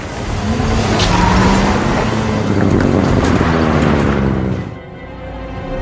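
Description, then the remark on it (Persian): Loud, steady rumble of five car engines driving up, with revving harmonics and road noise, before the din drops off sharply near the end. No one speaks. “میسن 5 تا ماشین دارم میام بالا”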